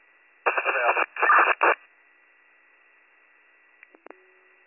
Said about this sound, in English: EMS-4, all I got up here was static.